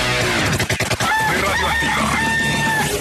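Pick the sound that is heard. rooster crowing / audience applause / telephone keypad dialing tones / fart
rooster crowing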